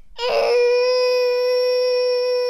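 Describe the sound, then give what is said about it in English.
A child voices a T-Rex roar: a rough, breathy burst that settles into one long, shrill, steady screech, loud and held for about two seconds with no other sounds. “Can we hear your T-Rex roar?”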